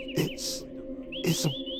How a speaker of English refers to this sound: It's a bird. Yeah, I know it's a bird, but it's directly in your crosshairs. Oh, well, bye-bye, birdie.